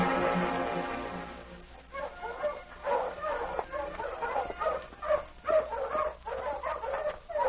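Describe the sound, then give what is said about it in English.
A dog named Thunder snarls and barks in agitated bursts at a cabin in an Eskimo village, starting with a drawn-out tonal whine-like growl, then a run of sharp, irregular barks for several seconds. “Thunder, what's the matter with you? That dog, him mad.”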